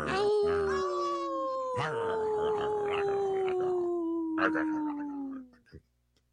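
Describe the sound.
A wolf howls in one long, loud, wavering note that slowly slides downward for about five seconds, with other howling voices layered beneath, then fades away.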